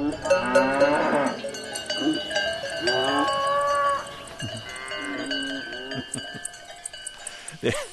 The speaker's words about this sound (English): is in the Swiss countryside and he hears cows and cowbells and the sound of birds taking flight, and he actually starts conducting what is, I gather, called the Wood Symphony. Let's hear a bit of that.